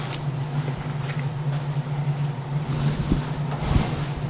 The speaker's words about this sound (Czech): Pustím slunce. Tohle je 42 000krát zrychlený srdeční tep našeho slunce.